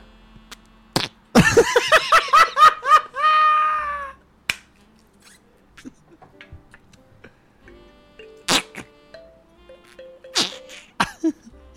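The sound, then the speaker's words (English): Flarp noise putty squelches out loud, rapid fart-like bursts that stretch into a longer, pitched, drawn-out toot, followed by scattered quiet clicks and taps. No one speaks. “Oh, it's noise putty, which means it'll make fart sounds.”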